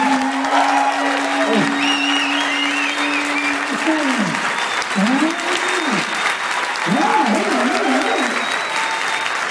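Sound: audience applause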